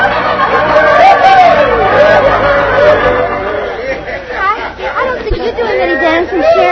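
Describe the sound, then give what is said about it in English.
A steady crowd hubbub in a dance hall, many overlapping voices chattering at once, loud and continuous throughout with no single speaker standing out. “We will go to the dance hall and report to the sheriff.”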